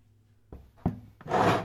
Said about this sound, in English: Well, move that chair to an open space and let's get to work.